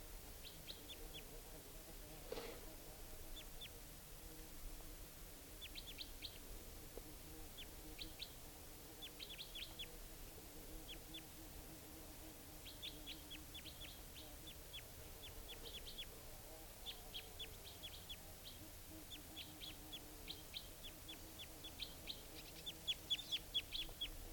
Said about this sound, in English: And the type 2 and type 4 bird, well, at least the type 4 took off for good, and I think it's coming back, because it wasn't joined by the type 2 bird, who's still in a nearby tree.